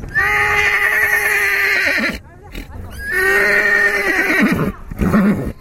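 Two loud horse whinnies at the Pushkar Mela fair, each a long quavering neigh that trails off into snorting, separated by a brief pause; some background murmur underneath.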